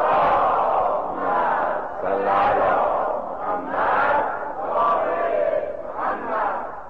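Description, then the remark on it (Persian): A large crowd loudly chants salawat in unison, many voices merging into a dense, rising and falling roar that swells in rhythmic waves for several seconds without a break. “انشاءالله که گیرهای قلبیمون با صلوات بلند فرستادن همش مرتفع میشه. صلوات بلند خواند کنید.”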